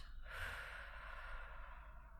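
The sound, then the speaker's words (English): A single slow, breathy exhale that starts suddenly and trails off gradually over about two seconds, soft and airy with no talking. “Keep breathing.”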